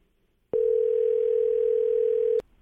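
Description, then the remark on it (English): A single ringback tone from an outgoing phone call: one steady, buzzing electronic tone lasting about two seconds, loud, with near silence before and after. “All right, it's ringing.”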